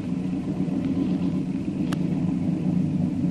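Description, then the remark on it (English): A motorboat engine is started and idles with a steady, loud, low rumble that holds unchanged throughout, broken once midway by a brief sharp click. “Start your motor, Rankin.”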